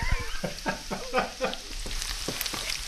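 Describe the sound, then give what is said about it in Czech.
Onions sizzle steadily as they fry in lard in a frying pan, having released their water and turned glassy, a bright crackling hiss broken by soft scraping stirs every half second or so, with no voices. “Takhle hezky se ozývá cibulka, kdy už tedy pustila vodu ze sklovatěla”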